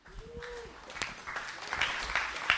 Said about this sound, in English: Boy, that was not much of a round of applause. And I need some affirmation. So, would you please give it up?